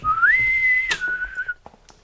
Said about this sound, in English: I'd like to hear a bosun's whistle as I move my way into my nautical chambers.